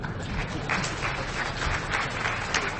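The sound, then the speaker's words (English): An audience breaks into steady applause for a team that fixed their CAPTCHA flaw within 15 minutes, many hands clapping in a dense, continuous patter that holds at an even, moderate level for a few seconds with no voices over it. “So I think that also probably deserves a round of applause.”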